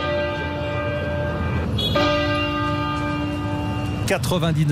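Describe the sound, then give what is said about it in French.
Westminster Cathedral bells toll steadily, 99 tolls in tribute to Prince Philip, each heavy strike leaving a long, shimmering hum that overlaps the next, with a fresh clang near the middle and another near the end. “99 sons de cloche, vous l'entendez, la cathédrale de Westminster a rendu hommage au prince Philippe, décédé hier à l'âge justement de 99 ans.”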